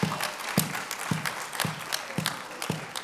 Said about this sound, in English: Give our players a hand, a round of applause.